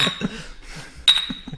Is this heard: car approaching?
no